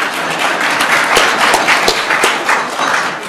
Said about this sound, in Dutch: Applaus voor u allen.